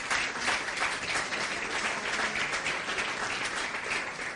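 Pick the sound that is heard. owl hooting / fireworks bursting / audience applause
audience applause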